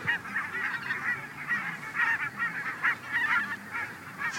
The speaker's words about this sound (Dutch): Nog voordat we één weidevogel zien, ontmoeten we eerst een hele wolk brandganzen die daar verblijven in een voor hen bedoeld rustgebied. Je ziet ze hier nu overtrekken, dat gaat in duizenden.